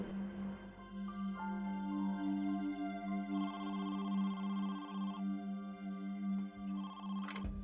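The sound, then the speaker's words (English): An electronic telephone ringtone plays alone for several seconds, a steady bright warbling tone with shifting melodic bursts, fairly loud with no voices. “Five days later, she received a phone call.”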